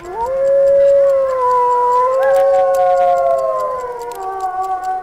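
wolves howling

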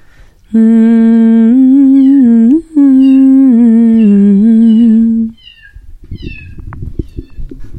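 cat meowing

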